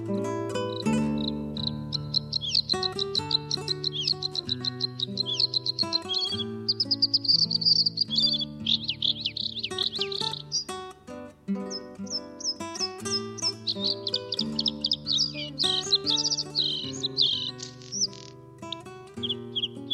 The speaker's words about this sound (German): Das war das Blaukehlchen.